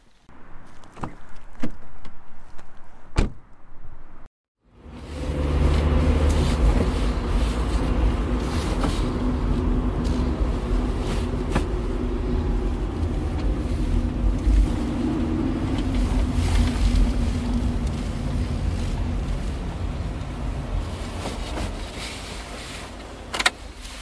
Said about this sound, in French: Allez, du coup, on va reprendre la voiture et on va faire une étape avant de rentrer.